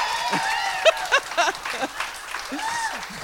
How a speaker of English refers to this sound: Silencing a woman through applause. Yes. Let's unpack that.